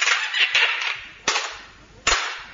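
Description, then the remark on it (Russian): A door slams shut with a sharp, loud bang, followed by two more hard slamming impacts, each trailing off in a brief rattling decay, with a rough scraping noise at the start. The door is slammed to test a newly fitted lock. “Дай-ка я дверь захлопну.”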